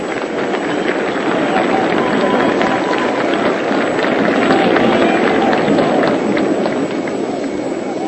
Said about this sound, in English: And here is Bill Dickey walking up toward the plate. Two men are on. The St. Louis fans are applauding Dickey.